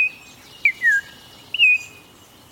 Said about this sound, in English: Texas birding trails offer birds that can't be found anywhere else in the United States, like the green jay and this Altamira oriole.